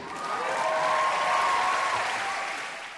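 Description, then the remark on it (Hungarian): A crowd claps steadily for about three seconds, a dense, even patter that swells and then tapers off, with a faint high whistle-like tone running through it. “Köszönjük a tapsot.”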